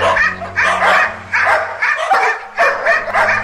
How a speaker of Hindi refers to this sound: अंधेरे में कुत्तों की चमकती हुई आंखें और गुर्राने की आवाजें किसी पत्थर दिल को भी डरा देती।